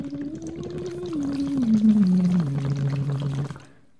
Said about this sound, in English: I can't really hear myself very well because I'm being muffled through water. So I'm okay with it if I miss a couple notes and it kind of frees you up.